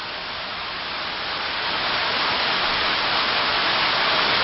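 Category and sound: nature, heavy rain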